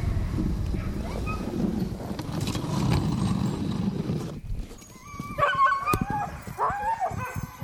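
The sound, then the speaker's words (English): A low rumbling, scraping noise gives way to a pack of excited sled dogs yipping, barking and howling in overlapping bursts, loud, during a dog sled ride in Bayfield, Wisconsin, as the team heads home. “Well, I think they're fired up. Now they know they're going home, so they're going to They might want to run a little extra fast.”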